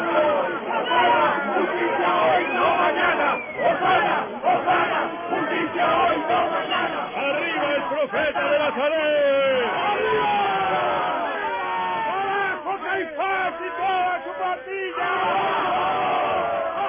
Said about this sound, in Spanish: Una avalancha de campesinos de Betania, de forasteros galileos, de hombres y mujeres, agitando con entusiasmo ramas de laurel y de palmera, enronquecidos ya de tanto gritar, vitoreando al Mesías, al hijo de David.